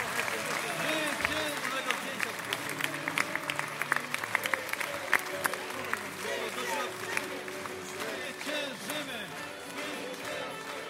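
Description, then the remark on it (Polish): Sustained applause from a large audience at a Law and Justice party election event in Poland's Świętokrzyskie region, greeting Jarosław Kaczyński, dense steady clapping for the whole stretch, with crowd noise and scattered voices mixed in beneath it. “Ogromne brawa!”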